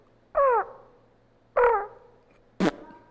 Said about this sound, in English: I said, but I'm not going to lie. That flock of crows back there is annoying.